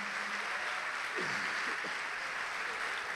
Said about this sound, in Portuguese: Vamos aplaudir o Senhor Jesus.